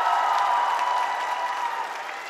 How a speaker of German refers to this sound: Erst einmal Applaus dafür.